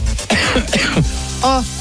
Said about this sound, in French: Oui, ça tousse dans les GG, désolé.